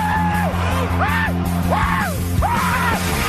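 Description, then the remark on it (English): A radio host on 710 ESPN Seattle lets out excited, screaming whoops, about four arching yells in quick succession, loud, over a steady low droning hum. “You hear that screaming. That whoop of excitement, and that's been me for the last couple of days.”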